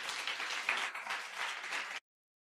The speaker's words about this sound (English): Let's give our worship team a big round of applause.